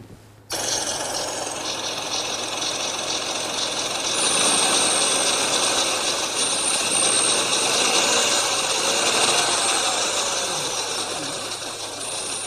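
A car engine idles steadily with a constant mechanical drone, overlaid by a high, thin squeal from a slipping V-belt that wavers slightly in pitch throughout; no one speaks.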